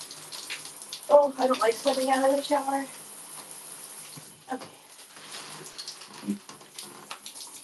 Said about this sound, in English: Okay, I should probably try to get my face washed.